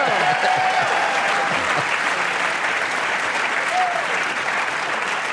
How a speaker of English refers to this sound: That does sound better now that everybody's clapping for me.